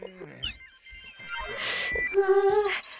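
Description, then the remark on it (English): A phone ringtone plays: a quick series of bright electronic beeps and chirps, then a sustained buzzy tone near the end, moderately loud with no talking. “Shh, be quiet, little phone.”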